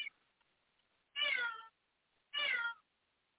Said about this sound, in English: This cat here is bugging me to death.